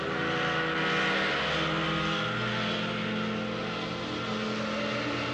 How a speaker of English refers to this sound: It's that ski boat out there. It's cutting right over the flag.